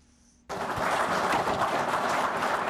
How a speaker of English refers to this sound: clapping after they received anti-poaching equipment worth $100,000